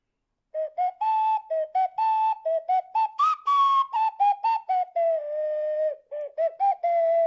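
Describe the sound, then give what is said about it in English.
A short, bouncy game-style melody played on an ocarina, with clear, breathy, flute-like notes in a quick hopping rhythm and one higher held note midway. It is fairly loud, with no talking. “We have to bail out your generation with our super cool slide whistles. And our ocarinas.”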